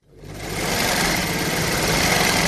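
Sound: sewing machine running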